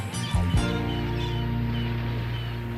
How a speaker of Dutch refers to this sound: Zo luisteraars, ik loop nu even op het dek van het schip. Het waait een beetje zoals u hoort, behoorlijk ook.